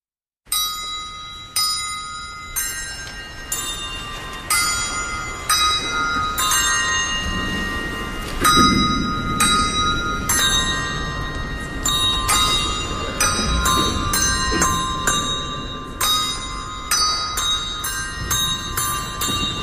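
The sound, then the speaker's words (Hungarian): Church bells peal continuously, many loud metallic strikes overlapping in a busy, uneven rhythm, their ringing tones hanging in the air between hits. No voices are heard. “Ő ugyanis, mint mondtam, a harangokat kutatja.”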